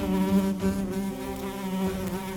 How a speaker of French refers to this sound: Qui vous a invité ici ? Satanée mouche, quittez ma tartine et promptement encore, ou il vous en cuira.